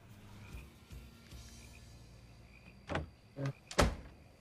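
A door closes behind a woman with a short sequence of clunks, a couple of latch rattles building to a final solid thud, loud against a quiet background.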